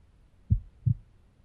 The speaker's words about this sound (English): Here, place your head on my chest. I've heard that if you listen to someone's heartbeat, your own heart will try to sync with the other person's heartbeat as well.